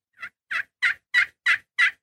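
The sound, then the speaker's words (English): A series of six evenly spaced young hen turkey yelps made on a friction call with a striker, each note short and raspy, clear with steady rhythm and no talking. “So you can make it sound like two different hens by moving your striker from one side of the edge of the call to the middle of the call.”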